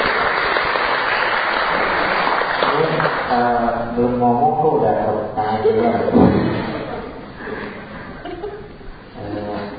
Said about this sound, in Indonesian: Begitu ngomong, langsung dikasih tepuk tangan.